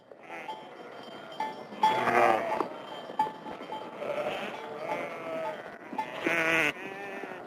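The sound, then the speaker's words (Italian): A flock of sheep at a sheep farm in Semione with 140 head bleats repeatedly, several overlapping calls rising loud around two and nearly seven seconds, over a steady background murmur of other animals. “allevatore di pecore, ci sono 140 capi”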